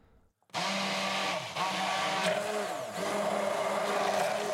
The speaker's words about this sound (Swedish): Börja med att mixa bladen från 2 korianderplantor i en mixer tillsammans med lite vatten.